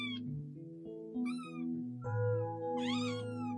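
A kitten meows several times, its thin, high-pitched cries rising and falling in pitch, with a few stretched, wavering calls running almost back to back and no talking.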